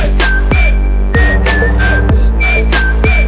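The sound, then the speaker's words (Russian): A short whistled melody of thin, high notes glides over a loud, punchy beat with heavy bass and steady drum hits, repeating in a looping musical phrase. “хватит свистеть.”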